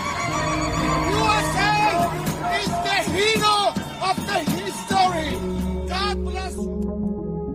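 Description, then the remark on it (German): A loud crowd of Iranians whooping and shouting together in cheering despite wartime bombing, with rising and falling yells over a dense babble, continuing steadily before a low rumble takes over near the end. “Andererseits sehen wir seit dem Kriegsanfang Szenen von Iranerinnen und Iranern, die trotz dem Bombenhagel jubeln.”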